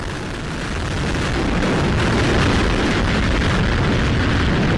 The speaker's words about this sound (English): Engine ignition. And liftoff. Liftoff of an Atlas V rocket and Landsat 9, continuing the legacy of an irreplaceable 50-year record on our ever-changing planet.